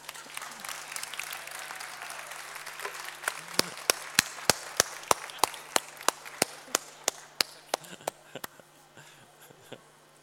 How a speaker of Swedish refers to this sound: Stor applåd för er!